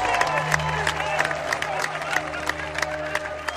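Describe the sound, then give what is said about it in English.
A crowd applauds and cheers steadily for a keeper playing his last game before retiring, a dense wash of clapping with sharp individual claps poking through and a low murmur of voices underneath, sustained for the whole stretch. “Please stand up. Let's give him a round of applause.”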